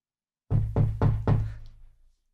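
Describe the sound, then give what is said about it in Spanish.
Four heavy, evenly spaced knocks on a door in quick succession, loud and insistent, with a low booming resonance that lingers and fades after the last blow. “llamando a la puerta con insistencia.”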